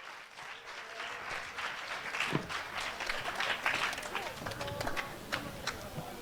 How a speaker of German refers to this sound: Ein Applaus für unseren nächsten Talk.